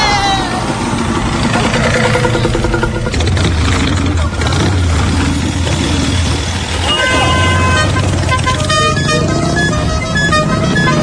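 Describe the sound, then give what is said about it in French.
A motorcycle engine rumbles steadily through busy, loud traffic in Bamako, Mali, while car horns toot repeatedly around it, with bursts of honking growing thicker toward the end. “Non, moi je vais sur ma moto.”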